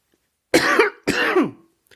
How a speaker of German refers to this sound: Selten hat man gespannter auf einen Hustenanfall gewartet.